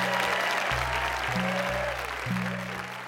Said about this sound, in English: That is the end of the first half, ladies and gentlemen. So before you go into the interval, can you give a huge round of applause for our four storytellers